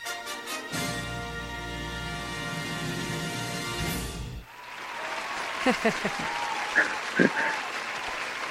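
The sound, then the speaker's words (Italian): The show's usual short musical jingle plays to welcome a guest, then cuts off into a steady wash of crowd applause, many hands clapping together at moderate volume, with a few voices speaking over it. “Non li sentiamo più gli applausi così, ci mancano.”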